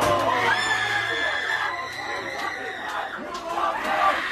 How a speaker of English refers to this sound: Oh my God, she's going crazy. Screaming at the top of her lungs.